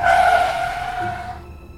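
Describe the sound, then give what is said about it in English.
A loud, sustained tire screech from a car braking suddenly on a street in Pyongyang late at night, a high squeal lasting over a second before quickly dying away, with no voices present. “Late one night, a car braked suddenly on the streets of Pyongyang.”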